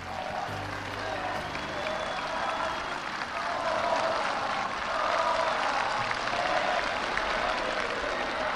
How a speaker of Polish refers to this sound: Amerykański przywódca witany jest entuzjastycznie przez zgromadzone tłumy.